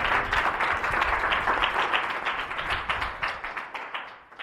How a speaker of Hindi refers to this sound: Hallelujah. जरा खुदावंद यीशु मसीह के लिए जोरदार ताली।